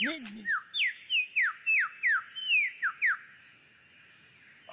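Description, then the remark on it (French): A superb lyrebird sings a quick run of about ten clear, downward-sliding whistled notes, mimicking the songs of other birds, after a brief bit of voice at the start; the song then stops. “Il possède la faculté d'imiter le chant des autres oiseaux ou divers sons entendus.”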